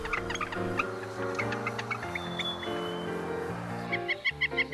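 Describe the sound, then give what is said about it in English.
A northern flicker, a woodpecker, calls in a quick run of sharp, repeated notes near the end, rising over a steady backdrop of sustained musical chords. No one speaks. “The northern flicker is a woodpecker, even though you'll find it on the ground hunting for ants.”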